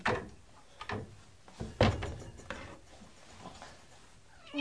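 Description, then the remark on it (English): A small drawer slides and bumps shut with a sharp wooden knock, preceded by a few lighter scrapes and clicks. “And my little drawer.”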